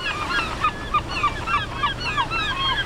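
A flock of herring gulls calling over and over at a park on the Niagara River, harsh overlapping cries coming in quick irregular bursts over a low, steady background rumble like wind or water.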